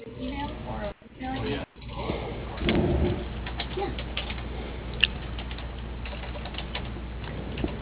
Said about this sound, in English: Using the keys on your telephone, please spell the first name of the person, then press pound for the letter Q.